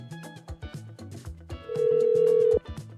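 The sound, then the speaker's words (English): A phone call to a friend rings out over speakerphone, one steady electronic ring tone lasting about a second, with a busy background of other tones and sounds before and around it. “Phone a friend it is. Speaker phone, please.”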